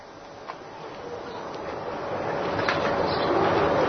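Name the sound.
pigeon cooing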